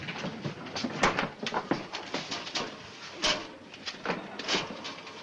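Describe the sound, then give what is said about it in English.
A refrigerator door is pulled open and later thumped shut, with a run of clattering, rattling knocks and rustling as things are shifted about inside while a packaged kitchen gadget is hidden in it. No one speaks. “How about the refrigerator? That's a good idea.”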